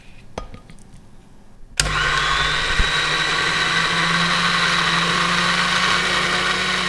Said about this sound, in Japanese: 最初にバジルソースを作ります。ミキサーにバジルの葉、塩、ニンニク、松の実、オリーブオイルを入れます。蓋をしてミキサーにかけてください。